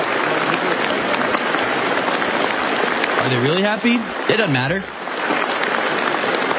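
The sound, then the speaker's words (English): Steady, dense clapping from a large crowd applauding the leadership fills the whole clip without letting up, loud, while a man briefly speaks over it partway through; the clapping goes on for 20 minutes. “It just goes on and on. And the clapping doesn't end.”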